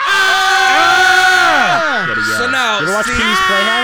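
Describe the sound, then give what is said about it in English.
Several voices scream and whoop together at full volume, overlapping pitches swooping up and down for a few seconds in a chaotic burst of yelling, as people react to hearing the secret word. “the rule is, when you hear the secret word, you got to scream real loud”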